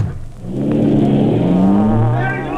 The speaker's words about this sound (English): You go ahead and start the car.